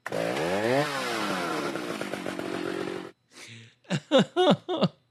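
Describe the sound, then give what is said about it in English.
A chainsaw roars, its engine revving and whining for about three seconds before cutting off, followed by a few short bursts of voice. “If you guys are going to continue to fire up the chainsaws, I'm going to need some earmuffs.”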